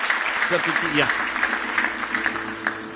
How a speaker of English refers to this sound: Give the Lord another big hand clap of praise.